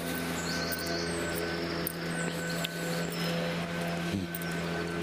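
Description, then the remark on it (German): A leaf blower drones steadily outside, a constant loud whoosh of air over a low motor hum that holds even throughout, with faint high chirps flickering in the background. “Klingt verdächtig nach einem Laubbläser.”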